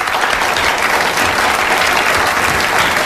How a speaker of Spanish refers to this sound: Reciban con un fuerte aplauso a una chica muy divertida cuyo nombre querrán recordar.